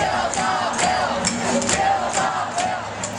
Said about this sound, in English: That's been the sound of America in recent weeks. Angry crowds of furious teachers, nurses, and firefighters.